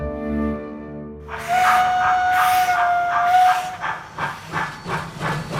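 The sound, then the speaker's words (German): A steam locomotive sounds a long, steady whistle over a loud burst of hissing steam, then settles into rhythmic chuffing puffs as it pulls away. Nobody speaks. “Mit der Dampflok.”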